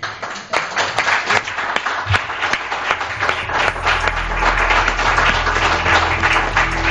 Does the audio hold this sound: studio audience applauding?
yes